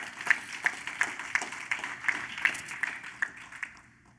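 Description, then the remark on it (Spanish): Applause as a slow, steady run of about ten evenly spaced claps, each a sharp, bright smack at a moderate level, with no voices over it, fading at the end. “Ah, no, si vas a aplaudir, hacelo convencido y con determinación.”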